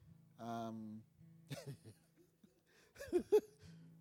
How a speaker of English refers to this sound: I see you're coughing, you're right?